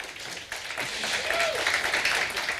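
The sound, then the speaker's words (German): An audience at the Plank Stage of the Three-Headed Monkey Village breaks into sustained applause to welcome a talk on 15 years of Netzpolitik.org, a dense, steady wash of clapping that swells after the first half second and stays loud, with faint voices and a brief whistle-like tone mixed in. “Und ohne große Umschweife, einen großen Applaus bitte, und zwar jetzt.”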